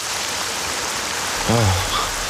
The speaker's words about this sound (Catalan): Ara es posa a ploure.